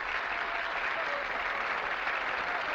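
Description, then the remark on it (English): Attendees at a theater award ceremony applaud the presentation of the Sarah Siddons Award, a steady wash of applause from many hands, dense and continuous with no breaks, holding at an even, moderately loud level throughout without any voices standing out. “Addison claps politely.”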